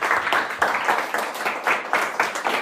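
Steady applause from a crowd, dense overlapping claps with a few louder surges, continuing evenly for a couple of seconds with no talking.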